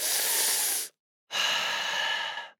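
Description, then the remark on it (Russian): A deep breath in followed by a long breath out, two airy whooshes separated by a short pause, with no talking. “Дышите глубоко!”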